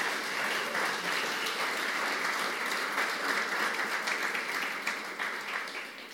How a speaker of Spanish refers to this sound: Me le dan también a ellos un aplauso de bienvenida, por favor.